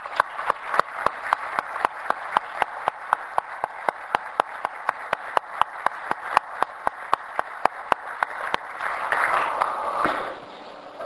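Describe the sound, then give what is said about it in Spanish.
Steady, evenly spaced claps from an audience, applauding IPCC scientists for their work and the Nobel Peace Prize, keep a brisk rhythm for about ten seconds, swell into a denser burst of applause near the end, then stop abruptly. “Muchas gracias por su trabajo y un aplauso bien merecido.”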